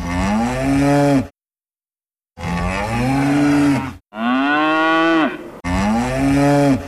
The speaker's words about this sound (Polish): Potem zaryczała krowa.